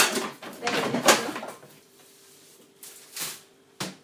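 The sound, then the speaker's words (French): A drawer scrapes open and its contents clatter and rattle as someone rummages through drawers looking for whisks, followed by a quieter pause and a couple of shorter knocks and shuffles. “Regarde dans les tiroirs là-bas, il va y avoir. Il y a un tiroir en plus.”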